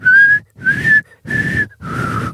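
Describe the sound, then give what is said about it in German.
A person whistles a short four-note signal tune, each note separated by brief pauses, the tones breathy and slightly wavering in pitch. “in meiner Nachbarschaft dieses Pfeifen gehört”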